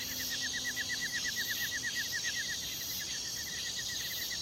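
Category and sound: bird, birds chirping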